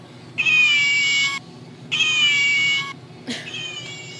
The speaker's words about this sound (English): We have the handmade furry animals. They're little cats. They look like they're sleeping. And they meow, too.